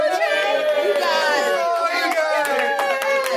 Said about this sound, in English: No, actually, what we should do, everybody who's already walked in, we should give them a chance to cheer for themselves. So everybody on count of three, cheer with your name. Okay, ready? 1, 2, 3.